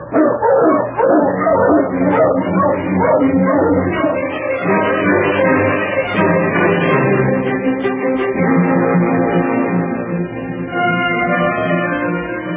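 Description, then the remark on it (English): A pack of sled dogs barks and yips excitedly, loud, their overlapping cries forming a continuous, dense chorus that barely lets up from start to finish; the dogs are being got up to hit the trail. “Get the dogs up, King.”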